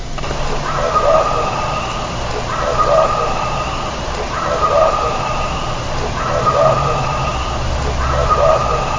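A looped recording, 190313 Crow Talker, played five times: a harsh, crow-like call repeats in a steady loop about every two seconds, with a thin high whine running above it and a low rumbling hum underneath. A human voice is talking, with the crow talker voice in the background.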